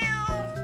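A cat meows once, a short, fairly loud cry with a clear tonal pitch that bends slightly, sounding alone with no talking.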